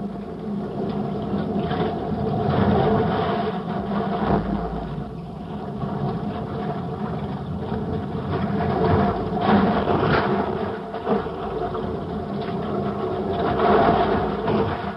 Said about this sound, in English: We made 2 attempts without any success, but we are able to bring you the sound that they heard at least in the rushing water above the falls. This is what it was like.